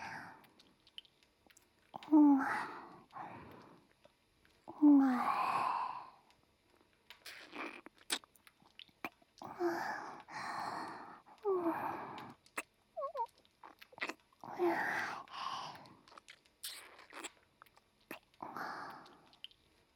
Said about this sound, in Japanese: 私の吐息と唾液、全身で感じなさい。